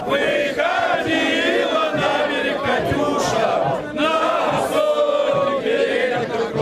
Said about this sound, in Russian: Россияне стараются не реагировать и отвечают патриотическими песнями.